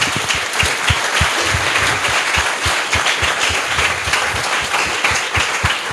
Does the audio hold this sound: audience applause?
yes